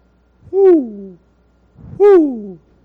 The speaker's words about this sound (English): the wise old owl.